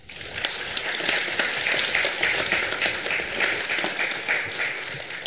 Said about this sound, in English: Let's give one final round of applause to our candidates.